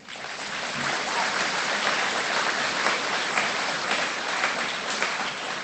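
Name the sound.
audience applause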